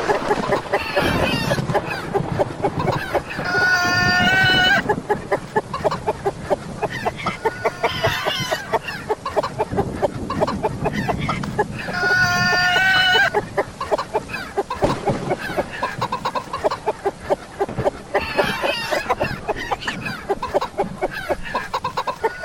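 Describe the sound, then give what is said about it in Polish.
A hen clucks loudly and continuously, with bursts of higher, drawn-out squawking calls recurring every few seconds throughout. “Czy ktoś wreszcie uciszy tę kurę?”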